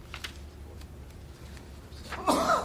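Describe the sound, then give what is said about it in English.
A single sharp sneeze bursts out near the end of a quiet stretch during a meeting, preceded by faint shuffling and a low background hum. “Bless you”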